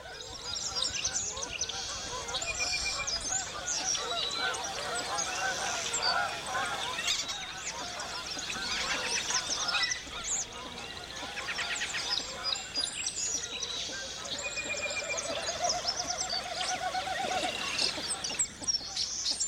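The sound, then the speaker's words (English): A dense chorus of geese honking continuously in a 30 Seconds of Nature segment, many birds calling over one another, with a steady outdoor wash underneath and no one speaking. “Please enjoy 30 Seconds of Nature, brought to you by Ducks Unlimited Canada.”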